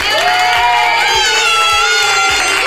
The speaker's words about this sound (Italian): Ora siamo tutti dentro, dunque applauso ai dinamici. Dinamici, dinamici, applauso alla definizione dei bambini.